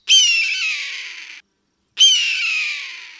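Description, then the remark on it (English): A red-tailed hawk gives two long, raspy, descending screams, each lasting over a second with a short pause between. The cries are loud and shrill, with no other sounds. “Joe Martin, an eagle handler at a raptor rehab program in Colorado, says it was a red-tailed hawk, and he adds, the cry of the bald eagle isn't nearly as patriotism-inspiring as that of the red tail.”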